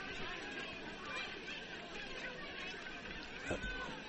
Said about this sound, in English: A great crowd on hand here at Tri-County North on both sides.